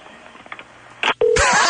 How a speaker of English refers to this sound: Ringing. Not ringing. Oh, maybe she's... That's some sort of funky dial tone or busy signal.